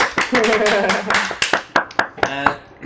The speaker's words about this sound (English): Someone's clapping.